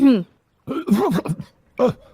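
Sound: throat clearing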